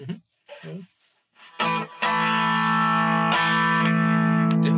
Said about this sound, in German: So, wollen wir mal so ein bisschen angezerrt. Ja. Ich mach mal noch mal clean, aber den Tube Screamer dazu.